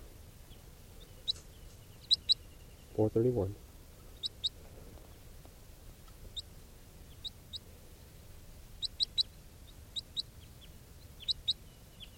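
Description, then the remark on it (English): Short, high chip-like calls of a captive juvenile crossbill, bird 431, repeat in small clusters throughout, sharp and fairly loud, with a brief spoken phrase early on over a low steady background hum. “That juvenile who recorded pre-capture will be bird 431. And this is 431 in captivity.”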